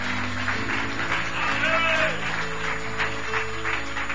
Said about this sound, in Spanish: ¿Cuántos pueden darle el aplauso fuerte al Señor?